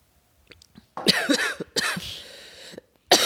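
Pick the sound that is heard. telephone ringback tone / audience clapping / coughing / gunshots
coughing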